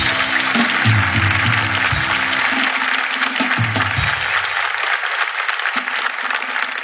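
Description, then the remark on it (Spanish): A crowd at the last show of the year of Hablando Huevadas applauds steadily, a dense, loud wash of clapping that holds for several seconds, with low sustained musical tones sounding beneath it during the first half. “Un fuerte aplauso para muy ustedes.”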